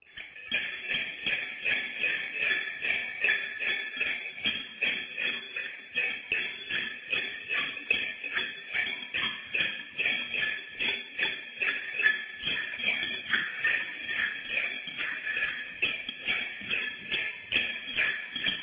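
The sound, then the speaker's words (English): Bells jingle continuously in a quick, bouncing rhythm, bright and fairly loud, with regular shaking pulses as the player jumps up and down, dancing while playing them. No one talks. “This is what these bells, so I'm going to go ahead and play them.”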